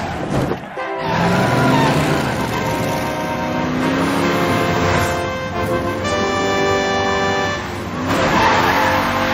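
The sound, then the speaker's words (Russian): On television, the stunt car of a super-cat racer revs hard as it prepares to jump over many cars, its pitch climbing and surging in waves over several seconds, with a brief squeal-like whine as it races, and no voices. “Супер-кот-огонщик собирается перелететь через множество автомобилей.”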